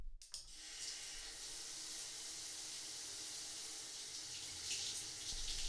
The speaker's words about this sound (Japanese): じゃあシャワーで泡流していきます。くるっと反対向いてもらえますか。